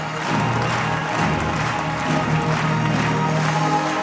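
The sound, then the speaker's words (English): A large audience applauds steadily as circus performers, including children, take a bow after a trapeze act and unfurl a Ukrainian flag, a dense wash of clapping with some crowd noise and faint cheering underneath, holding at an even, loud level throughout. “As the performers take a bow to rapturous applause, they unfurl a Ukrainian flag.”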